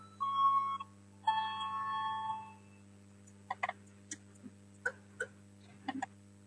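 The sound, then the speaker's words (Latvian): Two sustained electronic bell tones ring out in a parliament chamber to call a vote on a deputy's proposal, a short one followed by a longer one, then a scatter of sharp clicks and taps like buttons being pressed. “Lūdzu zvanu, balsosim par otro deputāta kucina iesniegto priešlikumu.”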